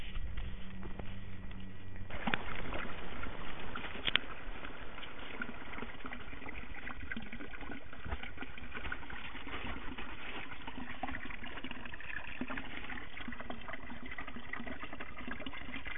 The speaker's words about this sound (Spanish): Este ruido evidentemente es el agua de la fuente.